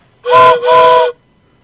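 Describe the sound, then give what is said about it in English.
A caller on a phone call imitates a train whistle with two loud, sustained back-to-back hoots lasting about a second in total, clear with nothing else around it. “Anyway, what I was calling about was because I'm a train. I'm a choo-choo train.”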